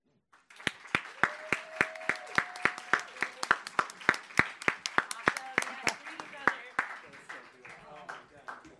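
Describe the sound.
Audience applause with sharp, steady claps in a quick even rhythm and some faint voices underneath, fading into a looser scattered patter of clapping toward the end.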